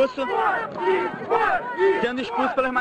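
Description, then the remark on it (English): A loud crowd surrounding mainstream reporters at an event chants in unison for them to leave, many voices shouting rhythmic, repeated phrases with rising and falling pitch, continuous throughout without pause. “Crowds then surround them, as in this incident this year, chanting for them to leave.”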